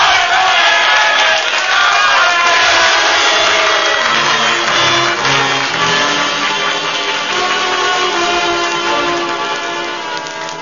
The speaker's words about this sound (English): Now they listen. Now they're cheering, but will they act?